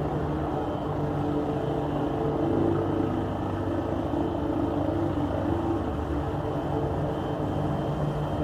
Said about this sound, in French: L'hélicoptère survole le ciel de la capitale et déverse son produit.